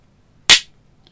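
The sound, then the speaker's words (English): A single loud hand clap, a sharp bright crack that fades quickly, surrounded by near silence with no voices. “Loud claps for moments of surprise or intervention.”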